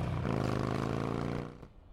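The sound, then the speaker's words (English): A motorbike engine is kick-started and roars loudly with a deep, steady growl for over a second, then quickly fades as the rider speeds away, ending with a brief knock. No voices. “And then she like kicks the engine and shoots off.”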